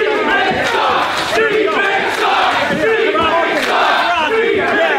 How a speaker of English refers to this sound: Call and response chant. Group of people yelling